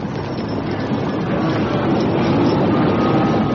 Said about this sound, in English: Flames make wall in front of wagon train. I hope it turns that herd. They're still coming toward us. They don't swerve, we're gunners.